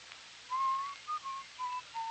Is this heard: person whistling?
yes